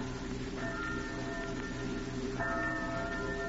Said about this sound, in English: Church bells. Why do they ring so late at night?